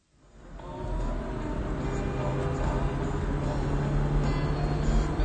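A car engine fades in and then hums steadily with a low, even rumble that continues without a break as the car on the road is stopped by the police. No one speaks.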